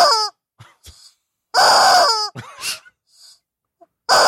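A toy chicken named George, brought back from the beach, lets out loud, strained squawks and crowing cries in three separate bursts, with brief clucking clicks and rattles in the pauses between them; no one speaks.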